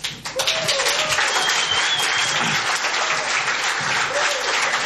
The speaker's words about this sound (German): Applaus fürs Hinsetzen, das erwarte ich eigentlich erst so ab 75 plus.